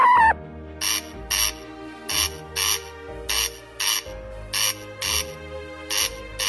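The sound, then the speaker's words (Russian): A male corncrake repeats its dry, rasping two-part call, harsh crex-crex pairs of broad buzzy bursts in a steady rhythm, fairly loud over a low background hum. “Но в мае и первой половине лета часто можно слышать скрипучий двусложный крик самца.”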